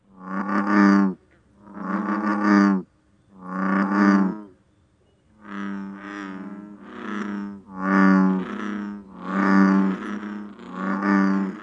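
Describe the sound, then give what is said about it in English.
An American bullfrog calls in a steady series of about eight deep, resonant, droning notes, each roughly a second long with short pauses between, loud with no voices. “Yeah, in general, I like the sounds made by the big frogs, and of course, the bullfrog is one that's pretty well known. It's the one that goes jug-a-rum, jug-a-rum, jug-a-rum.”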